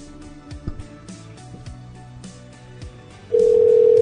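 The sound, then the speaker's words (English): A steady, loud telephone dial tone cuts in abruptly near the end as a call is made to a cell phone, after a few seconds of busy low background sound with no speech. “Let me just call her.”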